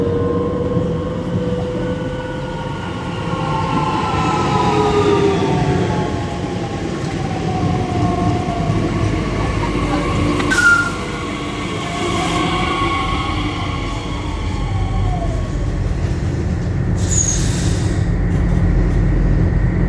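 A train running steadily, heard from inside the carriage: a constant low rumble with electric motor whines gliding up and down, and a couple of brief clunks. Nobody speaks.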